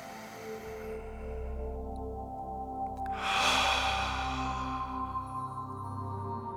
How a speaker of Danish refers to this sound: Nu skal du tage en dyb indånding igennem næsen, trække luften helt ned i lungerne og puste langsomt ud gennem munden. Vi gør det nu.